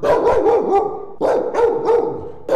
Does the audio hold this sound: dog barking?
yes